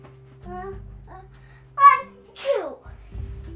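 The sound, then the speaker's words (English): A child sneezes: a few short voiced breaths build up, then a loud burst followed by a quick downward-trailing second gasp, with a faint low hum in the background. “Bless you.”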